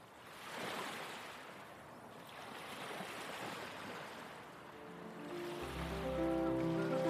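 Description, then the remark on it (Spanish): Ocean waves wash in and draw back on a sandy shore in a steady, rolling, full surge. Near the end a low, droning hum rises beneath the surf. “Nong pasa el día jugando con sus hermanos y hermanas en la arena, viendo las olas que vienen y van.”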